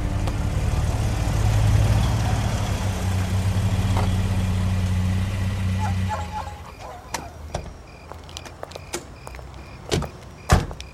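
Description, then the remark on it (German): A car engine rumbles steadily for several seconds as the vehicle drives through the evening streets of Carino Beach, then the engine noise fades away, leaving a few sharp clicks and knocks like doors or a window being worked. “saßen sie in Bobs Wagen und fuhren durch die abendlichen Straßen von Carino Beach”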